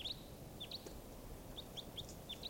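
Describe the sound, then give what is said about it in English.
Short, high-pitched chirps from bird number 588, recorded as it calls, repeat in quick bursts, about eight brief tweets scattered across a steady low background hiss, with no one speaking. “Recording now, bird 588.”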